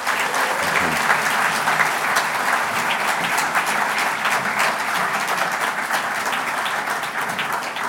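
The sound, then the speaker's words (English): Sustained audience applause at a book launch, a dense wash of many hands clapping at a steady, loud level for the full length before easing slightly at the end. No one speaks over it. “And ladies and gentlemen, let's give them a huge hand of applause.”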